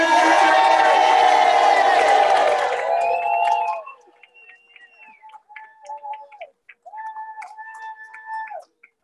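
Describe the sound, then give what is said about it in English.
A crowd gives one big federation cheer for everybody, bursting into a loud, sustained cheer of mixed shouts and whoops for a few seconds, then quickly dying away, leaving scattered voices and murmurs. “Let's give one big giant federation cheer.”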